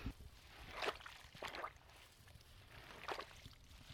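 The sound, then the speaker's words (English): Wet squelching steps of bog shoes in shallow bog water, a few soft sloshing footfalls at an unhurried pace, fairly quiet, with no talking. “The sound of the bog shoes squelching on the bog water.”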